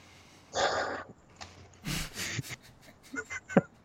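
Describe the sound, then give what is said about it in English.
Crunchy chewing of a stack of eight Cheez-It crackers right by the microphone, coming in several loud, rough bursts of crackling with short pauses between, and no one talking. “Oh my god, and you're going to put them all in your fucking gullet, and you're just going to chew them right there by the mic, huh?”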